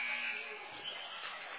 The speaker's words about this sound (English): Villa fires the three. No good. Buzzer sounds. This one going to end.